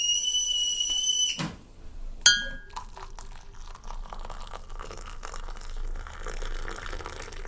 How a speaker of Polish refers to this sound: Syrena okrętowa.